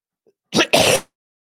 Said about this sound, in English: I tried to mute that cough. I'm sorry, guys.